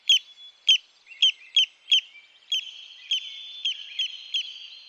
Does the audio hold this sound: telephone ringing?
no